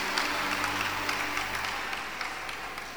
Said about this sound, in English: Wow. Please clap for Jesus. Clap for Jesus. Clap for Jesus.